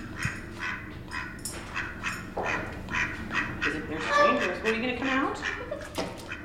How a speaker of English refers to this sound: So this is Ernie. Ernie is our mallard duck. He's actually about 5 years old. He was born here on zoo grounds.